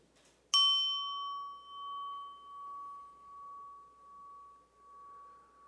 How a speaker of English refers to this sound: And then the next sound you will hear will be the dinging of the bell. When I do that, again, keep your eyes closed until I tell you to open them.